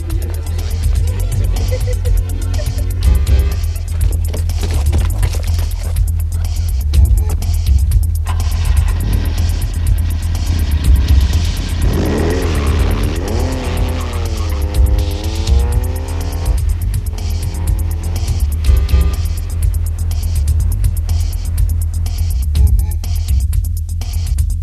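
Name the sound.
car engine running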